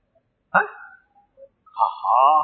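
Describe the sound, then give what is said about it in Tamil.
A man's voice mimics a dog barking, as a nearby dog would at dropped meat: a sharp, loud yelp followed after a short pause by a longer, drawn-out bark-like howl, on its own. “பத்து பக்கத்தில் உள்ள நாய் என்ன செய்யும் சொல்லுங்களேன்?”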